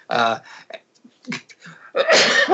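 A loud sneeze sequence: a voiced burst, a pause with faint breathy sounds, then a harsher, explosive sneeze at the end.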